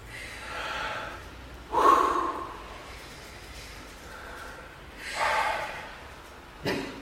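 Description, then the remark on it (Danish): Slow, audible deep belly breaths drawn in and let out through the nose, a few airy inhales and exhales with quiet pauses between them and no talking; the belly pushes against a hand on the inhale, and the hand presses the belly in on the exhale. “Når I trækker vejret ind, så prøver I med maven at skubbe lidt på hånden. Og så når I ånder ud igen, så prøver I med hånden at skubbe maven lidt ind.”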